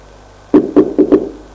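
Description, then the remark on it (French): Four dull knocks on a bedroom door by a supervisor, the first two evenly spaced and the last two coming a little quicker, with no voices and only a faint hum in between. “On l'a frappé à la porte.”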